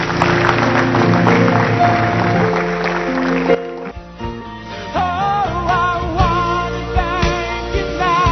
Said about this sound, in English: Clap your hands, stand to your feet.